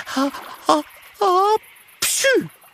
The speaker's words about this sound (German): Nein, nein, erwidert Mathilda und muss plötzlich niesen.